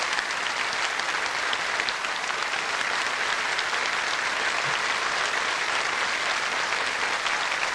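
Sustained applause from a large audience at the close of a party congress, thanking the overseas delegates: a dense, even wash of clapping that holds steady at full strength for several seconds with no voices standing out.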